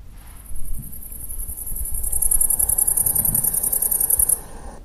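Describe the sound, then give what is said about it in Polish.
A grasshopper chirps in a rapid, high-pitched buzzing trill that pulses steadily for several seconds before stopping, over a soft low rumble of wind or rustling. “Konik polny.”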